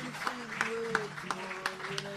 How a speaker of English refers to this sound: Big round of applause for him and his podcast, The Grapes of Rad.